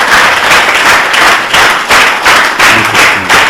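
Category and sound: crowd, audience clapping loudly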